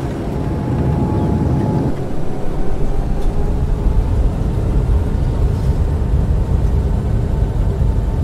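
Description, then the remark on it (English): A loud, steady roar of jet engines on reverse thrust, mixed with deep rumbling as the airliner brakes on the runway after landing, sustained throughout. “Brakes and reverse thrust, sir.”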